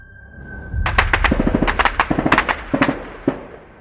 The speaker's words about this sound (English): What was that? What was that? That was gunfire. Yeah, that was gunfire. That was violence down there.